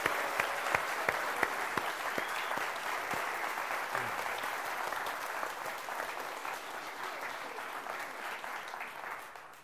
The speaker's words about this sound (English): I think you have to agree that they have done an exceptional job this morning. So I think a big round of applause for them again.